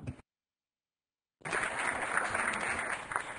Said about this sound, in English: I have to clap to that, because I'm hoping other people follow your way.